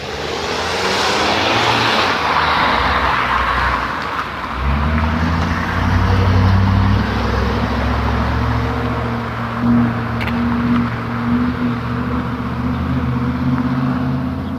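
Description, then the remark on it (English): Windy road noise gives way to the deep, steady drone of a pickup truck's engine, loud, rumbling on for several seconds as the truck drives along, coming up from behind. No one speaks. “there's a guy in a pickup truck. He's driving along. He's coming along from behind me.”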